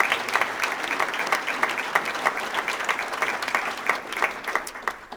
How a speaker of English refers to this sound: Could we have a round of applause for all of those groups?